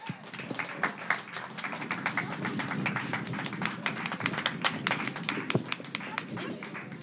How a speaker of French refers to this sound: Applaudissements.